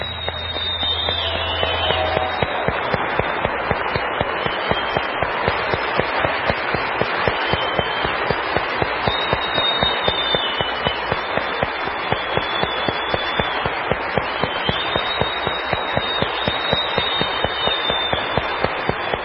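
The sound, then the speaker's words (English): Sustained applause from a live concert audience after a song, for the band, a dense steady clatter of many hands clapping for the full stretch, with a few high whistles cutting through and no voices speaking. “Another big round of applause for my great band”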